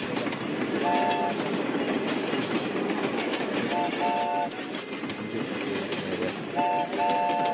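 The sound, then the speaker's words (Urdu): A train rumbles steadily along the rails, its loud, continuous clatter filling the scene while short horn blasts sound three times, clear, with no voices. “چھک چھک کرتی ٹرین احمد بھائی کو لے کر آگے بڑھ چکی ہے.”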